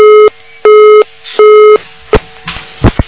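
Three steady, loud busy-signal tones repeat at an even pace with short gaps as a phone call fails to get through, then give way to a few sharp clicks and line noise as the phone connection drops.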